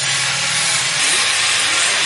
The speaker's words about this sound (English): The deafening sound of cutting and grinding machines, punctuated by the tapping of hammers and chisels, echoes around the hills next to Sagyin Village, north of Mandalay, Myanmar.